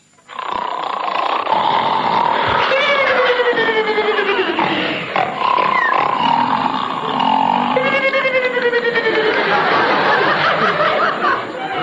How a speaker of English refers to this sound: Another comedy device called for by writers is the funny sound effect. Seven men snoring.